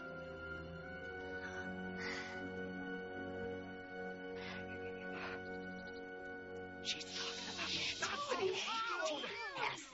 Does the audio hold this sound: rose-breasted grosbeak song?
no